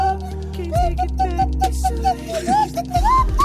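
A swanee whistle plays a slow, sliding melody, its notes bending up and down over a steady backing track with deep bass and soft beats. The whistle sits clear and close.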